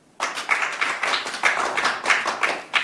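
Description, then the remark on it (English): A thin smattering of applause: scattered hand claps at an uneven pace, bright and crisp but not very loud, with no voices over them. “I think that's called a smattering of applause.”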